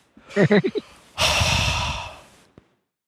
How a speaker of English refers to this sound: Rather, you're breathing rather heavily into the microphone.